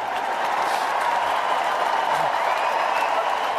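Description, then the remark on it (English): A large crowd at Wimbledon's Centre Court applauds as Marcus Willis walks onto the grass: a dense continuous wash of clapping at a constant loudness, with a faint murmur of cheering mixed in and no single voice standing out. “Here's the crowd at center court as he walked onto the grass.”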